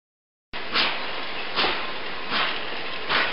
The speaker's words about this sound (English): In this part of the journey, Phileas Fogg and Passepartout are on a train travelling across India from Bombay, Mumbai, to Calcutta, Kolkata.